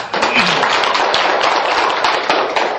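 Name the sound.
audience applause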